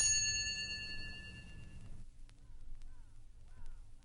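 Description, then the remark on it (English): A single bright bell chime, the page-turn signal in a Muppets read-along story, rings out clearly, its shimmering tone sustaining for about two seconds before cutting off, leaving a quiet, faintly busy background. “Wow, like, what a groovy bell, man, but what's it mean, you know? Turn page!”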